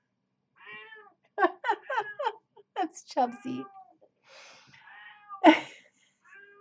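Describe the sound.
An old cat meows loudly and insistently, a string of drawn-out, wavering cries, with a person briefly speaking between them.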